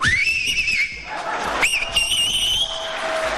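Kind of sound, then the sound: human body sound, loud finger whistling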